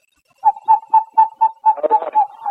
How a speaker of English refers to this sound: And that screech owl in western Montana that looked similar to eastern Montana sounded like this.